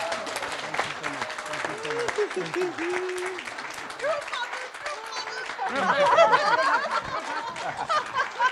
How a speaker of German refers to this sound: So we give you a big hand of encouragement and ganz thank you. Ganz großen Applaus für euch. Thank you so much.